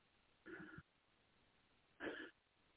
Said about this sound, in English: somebody's coughing, making a lot of noise.